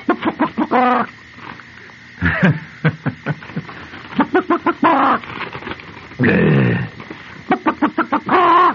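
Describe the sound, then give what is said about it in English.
A voice imitates a chicken, with loud bursts of rapid clucking broken by several long, strained squawks, all in an uneven, frantic rhythm with short pauses between. “That's a chicken about to lay a square egg.”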